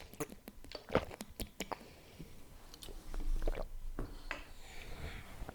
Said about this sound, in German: Moment, ich muss was trinken.